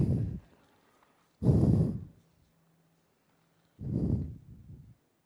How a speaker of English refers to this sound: I'm breathing so hard.